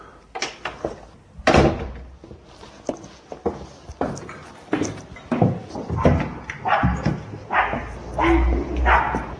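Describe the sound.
A dog barks over and over in sharp, irregular bursts, some loud and close, mixed with thumping knocks and faint indistinct voices in the background.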